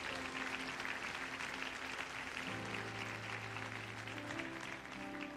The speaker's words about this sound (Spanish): Aplauso al Señor por ella.